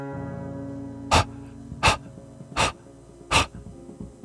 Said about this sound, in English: A wet, rapid breathing. Waiting for me at the door to City Hall. What she had been fleeing from. The beagle puppy.